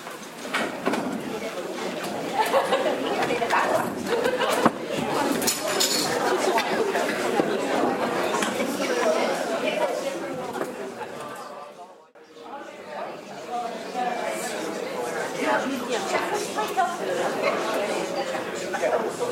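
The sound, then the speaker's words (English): An audience talking in pairs, sharing stories with the person next to them, a steady, overlapping murmur of many voices that dips briefly to near quiet before the buzz picks up again. “I can still hear your buzzing.”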